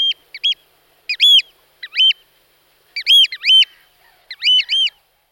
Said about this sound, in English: Oyster catchers are waders that love to be heard. The kapeak call is their favourite of a large range.